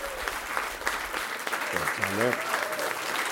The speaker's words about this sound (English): A big round of applause.